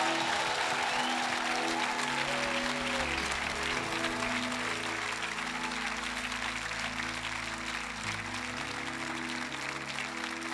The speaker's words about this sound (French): J'aimerais qu'on puisse se lever dans la maison de Dieu ce matin et donner une acclamation à Elohim, qui est Emmanuel, qui est Dieu. Voulez-vous lui donner une ovation?